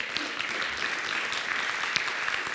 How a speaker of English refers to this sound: We should especially say amen to that in our church, because our church was started by two women over 125 years ago, right? So this has been a part, yeah, we can clap for that too.